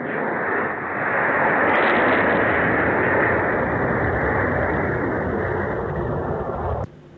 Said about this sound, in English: The missile go over, and then boom. And then you hear the explosion come in. And radio listeners can't see this, but showing footage of it. So, you hear the missiles shoot over. You see the flash in the distance.